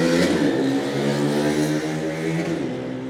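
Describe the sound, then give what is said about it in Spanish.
A motorcycle engine revs loudly for about three seconds, a steady throaty drone whose pitch dips slightly and eases off near the end, with no voices. “Dijeras tú, ¿es una buena moto? No, no es una buena moto.”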